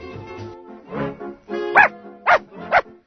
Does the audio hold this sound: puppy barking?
yes